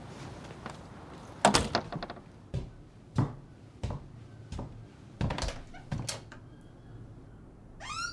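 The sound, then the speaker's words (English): A door is pushed open with a cluster of sharp knocks and thunks as someone enters the North Community Project, followed by scattered bumps and shuffling footsteps, ending with a brief rattle. “This is me big entrance.”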